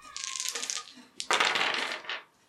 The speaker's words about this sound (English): Is it minus two? Or it's at minus one. I need a two. So I will go with three dice.